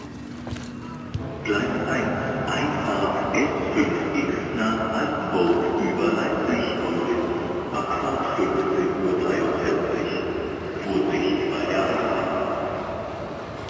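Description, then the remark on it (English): Train station ambience at a modern, newly built station running steeply down under the center of Leipzig: a loud, steady rumble of a train with humming, droning tones that carries on throughout, with faint indistinct voices in the background. “so I have 2 minutes to switch trains now”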